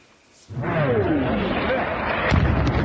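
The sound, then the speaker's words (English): After a brief quiet moment, heavy rumbling artillery fire erupts in Ukraine during the Russian invasion, with a loud booming blast near the end over the continuous roar. “Air raid sirens and explosions shattered the peace today.”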